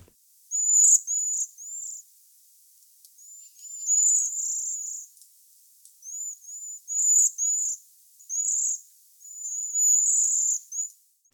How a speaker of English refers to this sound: They're highly flocking birds. You know, they're always found together, so they're always giving kind of calls, communicating with each other. They have two calls. One is a high-pitched Z call.